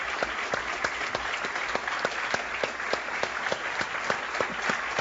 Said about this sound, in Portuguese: Vamos aplaudir o Senhor como Ele merece ser aplaudido, louvando, exaltando o Seu nome.